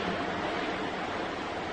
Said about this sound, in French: Qu'est-ce que c'est que ça, le ruisseau?